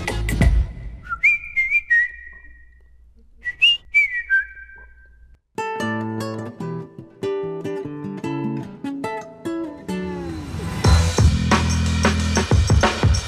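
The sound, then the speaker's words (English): Someone whistles a short, catchy melody in clear, bright phrases with sliding notes, alone, before a full instrumental music track abruptly takes over and grows louder. “But I couldn't stop whistling.”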